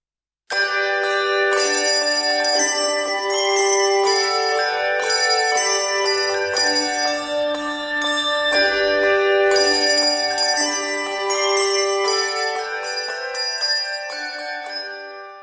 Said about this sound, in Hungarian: templomtornyokban porosodó, csengő-bongó harangok, amelyekről oly keveset tud a 21. század embere.